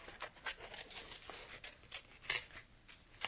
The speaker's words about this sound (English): And just once you've got it traced out, pick up your scissors and very quickly and roughly cut through it.